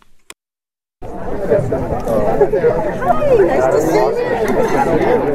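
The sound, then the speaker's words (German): A steady murmur of many overlapping voices chattering at an exhibition opening in a museum in Marfa, Texas, a dense crowd of expensively dressed people making small talk with no single speaker standing out, starting abruptly after a brief silence. “Ausstellungseröffnung im Donald Judd Museum der Cinatti-Stiftung in Marfa, Texas. Viele teuer angezogene Menschen üben sich in gehobenem Smalltalk, knappen Käsecrackers und nippen am Margarita-Glas.”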